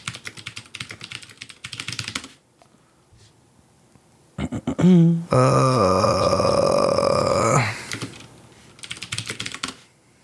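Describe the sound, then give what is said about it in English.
Rapid clattering of typing on a computer keyboard comes in two bursts, at the start and end, with a loud, drawn-out burp-like vocal noise in between. The keystrokes sound fairly loud. “And, okay, I'm going to lab keyboard here.”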